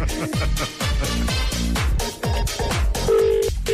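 A telephone number is dialed on a radio studio phone terminal in quick tones, followed by a steady ringing tone on the line, loud over a busy musical backing, as a call is placed to a listener in Waterford for a trampoline giveaway.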